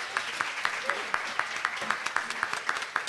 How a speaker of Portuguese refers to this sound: Uma salva de palmas para você.